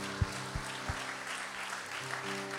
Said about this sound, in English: What a great servant. We all should give him a hand clap.